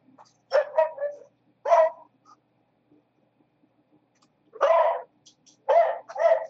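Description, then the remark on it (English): A dog barks in short bursts separated by pauses, about five or six sharp yelps in clusters. The barking is moderately loud and clear with no talking over it. “Dog's barking something there.”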